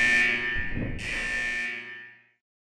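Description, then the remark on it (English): A loud, steady electronic alarm blares continuously for a little over two seconds with a harsh, buzzing tone, a brief low rumble underneath, before cutting off into silence. “At that moment, the alarm siren began wailing again.”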